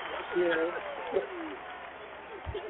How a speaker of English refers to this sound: Well, you know what? I think we need to give y'all a big round of applause. Thank you.